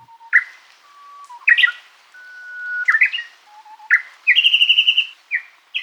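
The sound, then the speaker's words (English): A Japanese bush warbler sings clearly, repeating a long, steady whistled note that breaks into a quick, sharp flourish, with a rapid rippling trill near the end. “We have got the song of the shy Japanese bush warbler, thanks to the Macaulay Library at the Cornell Laboratory of Ornithology.”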